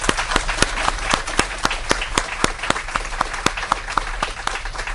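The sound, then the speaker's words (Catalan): An audience at a Catalan church gathering applauds steadily for several seconds for all those present, a dense wash of many hands clapping with a few sharper, louder claps standing out irregularly; no one speaks. “tots els que sou aquí, un aplaudiment per tots.”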